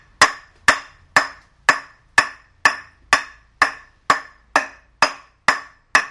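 An aluminium cricket bat, the kind Dennis Lilly tried to introduce in the 1970s, strikes a ball twelve times in steady succession, about two hits per second, each a sharp, bright metallic clank with a short ringing tail. No voices.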